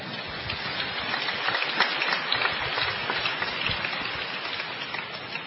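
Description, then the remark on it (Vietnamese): An audience in a church breaks into sustained applause to welcome a young woman, a dense, steady wash of many hands clapping at once that fills the church for several seconds with no voices over it. “Kính thưa cộng đoàn, chúng ta cho một tràng pháo tay để chào đón cô bé ấy,”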